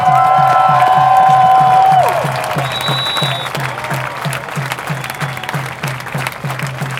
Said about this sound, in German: Heute sind verdammt nochmal allein mehr als 30.000 Menschen in Hannover auf der Straße. Dafür einen richtig fetten Applaus!